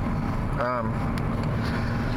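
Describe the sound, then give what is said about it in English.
A steady, loud low rumble of a car rolling in bad traffic on the Highway 95 flyover, a single carpool lane, heard from inside the vehicle, with a brief tonal voice-like sound rising over the drone early on. “The traffic's kind of bad. I'm actually on what they call the flyover on the Highway 95.”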